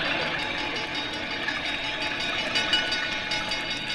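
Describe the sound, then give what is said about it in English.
All the fire bells in town ring, set off automatically by a sprinkler system, nonstop in a harsh, metallic clatter, a dense, steady wash of jangling sound that holds at an even loudness for the full four seconds with no voices. “When the sprinklers start working, it automatically rings all the fire bells in town.”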